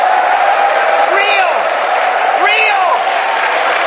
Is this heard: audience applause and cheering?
yes